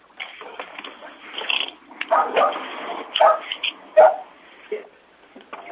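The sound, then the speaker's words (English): A participant's dog barks several times in short, irregular bursts during the roll call of an online meeting, heard through a thin, call-quality line over a low background murmur. “Someone's dog is present.”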